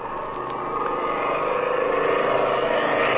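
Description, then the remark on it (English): A small airplane engine drones steadily as the plane approaches a ranch at dusk and dives over the ranch house, a rough buzzing hum that grows slightly louder as it draws nearer. No voices, just the continuous motor. “when the drone of an airplane is heard approaching the ranch.”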